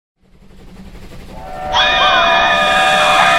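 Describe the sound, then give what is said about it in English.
A train sound effect for the Transcontinental Terror Express, an audio drama on the Mutual Audio Network's Sunday Showcase: the train's rumble swells steadily, then a loud, sustained multi-tone whistle blasts over the clatter and holds to the end, prominent, with no voices. “Welcome aboard the Transcontinental Terror Express, a special run on the Mutual Audio Railroad Network.”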